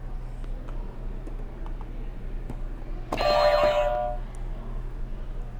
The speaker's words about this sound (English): Why don't you hit another buzzer? You can hit two at once if you want to.